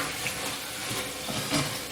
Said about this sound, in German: Fleisch brutzelt. Ich hoffe, das ist nicht zu laut hier.